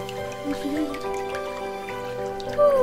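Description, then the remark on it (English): Light dripping sounds, like raindrops falling in soft scattered plinks, over a sustained, gentle musical tone that swells into a rising glide at the end. “Happy rain!”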